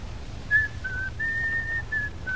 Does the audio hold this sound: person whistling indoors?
yes